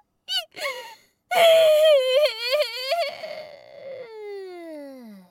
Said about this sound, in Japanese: ち、泣いてもごまかされないか。